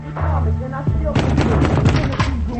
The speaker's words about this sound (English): Sally pounds on Jack's door.